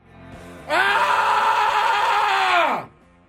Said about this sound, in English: That's the opposite of a guttural. Yeah, that's a scream in agony, everybody.